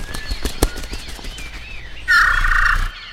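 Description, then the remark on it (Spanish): A serere curanchero bird flaps off from a window after being shooed away, a quick burst of fluttering wingbeats with a sharp snap early on, then a loud rushing whir near the end before it fades away. “Ese es el serere curanchero del que les había hablado.”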